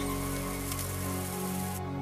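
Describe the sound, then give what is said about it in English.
Water pours steadily onto 20 tons of dirt and rock in a continuous rushing splash to make a mudslide, with a low mechanical hum running underneath and no voices. “Now it's time to add the water.”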